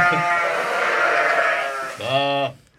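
A sheep bleats loudly and close by, one long wavering cry followed by a shorter second bleat, with no other sounds around it.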